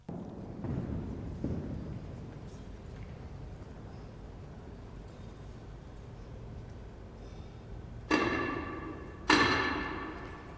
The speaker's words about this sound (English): Yeah, they bang their... staff, their wand. I don't know if wand is the right word, but basically, you know, they have an impressive word for that thing that they bang on the ground just to say, hey, we need to do something now.